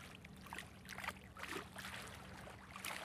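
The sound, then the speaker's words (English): Gentle waves of the Mississippi River lap steadily against the bank at Grafton, a southwestern Illinois town, on a sunny autumn day, a soft continuous wash of splashing water with small irregular sloshes and no voices. “On a sunny autumn day, waves calmly lap on the bank of the Mississippi River in Grafton, a southwestern Illinois town of 650 people.”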